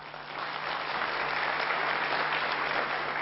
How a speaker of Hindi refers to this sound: अभी डॉक्टर कलाम के लिए जोरदार तालियां बजाइए सभी.